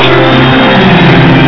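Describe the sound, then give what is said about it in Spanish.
An audience's loud, sustained shout of joy during a church sermon, many voices blending into one dense roar that holds steady for the whole moment without any clear words. “Hay un grito de júbilo.”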